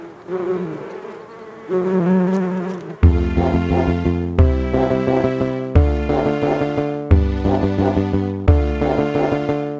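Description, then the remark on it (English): Loud bees buzz in a dense droning hum that swells in regular pulses every second or so, after a softer, wavering buzz at the start. No one speaks. “Good job, bees.”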